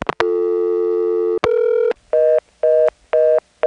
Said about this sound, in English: And to hear that long dial tone with no digital fuzz in it is kind of cool. You know, it's funny, in the 1960s they invented a whole new set of telephone tones that sounded really nice.